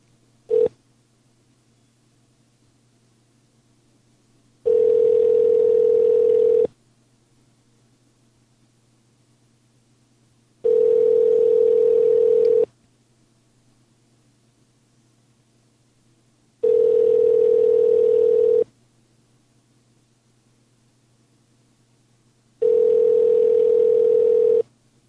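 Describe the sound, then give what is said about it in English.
Ringback tone of an outgoing phone call: four steady electronic rings, each about two seconds long with a few seconds of quiet between, repeating evenly over a faint line hiss. No one speaks. “I like the part in the show where the phone rings.”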